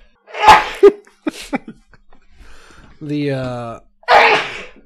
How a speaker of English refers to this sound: I'm going to start sneezing away from the microphone.